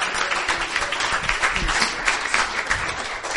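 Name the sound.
audience cheering and applauding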